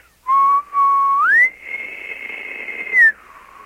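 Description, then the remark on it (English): A person whistles an imitation of an elk bugle: a low note that slides up into a long, high, sustained tone, then drops back down. It is clear and alone, with no talking. “So it's a whistle that has a crescendo and then comes back down.”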